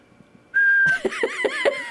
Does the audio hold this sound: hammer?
no